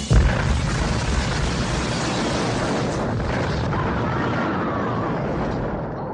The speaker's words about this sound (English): And that leads us to a very big explosion.